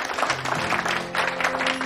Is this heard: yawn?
no